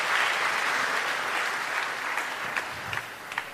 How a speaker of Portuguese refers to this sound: Eu quero uma salva de palmas para os meus atores daqui e daqui.